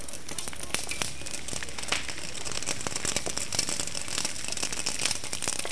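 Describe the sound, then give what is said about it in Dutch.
A burning barricade of about 10 to 15 car tires in Utrecht, during the eviction at the Malisingel, crackles and pops near the speaker in a steady, dense stream of sharp snaps and crinkling bursts over a continuous low roar, fairly loud throughout with no voices. “En ik sta vlakbij een brandende barricade.”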